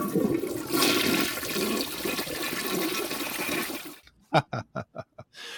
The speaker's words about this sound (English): We need a flush sound effect to put on the show at some point today.